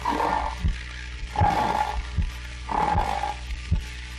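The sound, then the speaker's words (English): A man vocally imitates a man snoring in bed: three rhythmic, raspy inhale-and-exhale cycles about every second and a half, each with a throaty rattle and a nasal, droning whistle, fairly loud with no talking. “First, he's snoring in the bed.”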